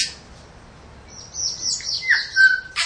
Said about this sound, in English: This is the tui, which is one of my favourite birds in New Zealand. It's got these amazing calls, some very sort of grunting calls and others very fluid and beautiful. One's just landed in the tree above us now.